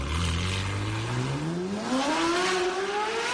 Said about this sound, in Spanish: Ahí va el Ferrari.